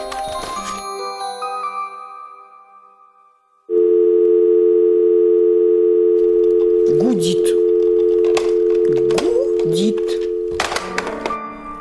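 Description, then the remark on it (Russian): A loud, steady telephone busy signal tone drones on for several seconds after a brief chime-like opening, with a voice briefly sounding over it near the end. “Жуть, какой противный телефон. Господи, работает он, а.”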